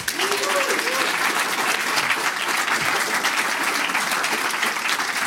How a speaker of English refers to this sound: So, yeah, I think we can do a big round of applause for the various sponsors.